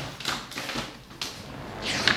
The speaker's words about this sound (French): Ces fauteuils grincent, j'essaie de faire un peu attention.